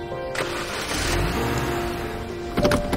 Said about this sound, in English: Ellie drives the car off.